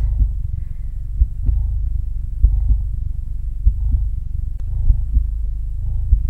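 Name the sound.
human heartbeat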